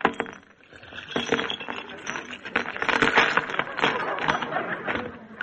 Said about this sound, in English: Just give me the car keys. All right. Here, they're in my purse. Let me have it. Oh, wait, I'll just empty it out on the table.